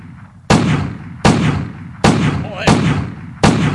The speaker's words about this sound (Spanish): Y que no le da. Madre mía, esto parece ya la sala del Congreso, chico. Si carga usted perdigones en vez de bala sólida, a lo mejor le da algo.